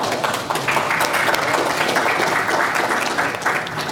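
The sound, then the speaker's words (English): Sustained audience applause, a dense, steady wash of many hands clapping at an even loudness throughout, with no voices standing out. “And I think that probably deserves a round of applause.”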